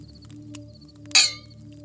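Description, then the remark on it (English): A single close clink of wine glasses touching in a toast, a bright sharp tap followed by a short ringing tone that fades within a fraction of a second, over a low steady hum. “It sounds like our wine glasses are probably like oblong shaped.”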